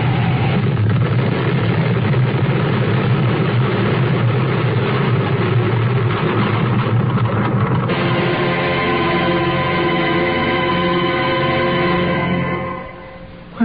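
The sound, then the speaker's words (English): A space jet flown by a former test pilot roars loudly and steadily, then shifts into a strained, whining drone as the plane stalls and spins down toward Earth in a dive, before abruptly dropping away at the end. No voices. “His wife, a former test pilot, desperate because her husband's body has been found and buried, takes off in her space jet, flies high, then spins to Earth. Her plane stalls.”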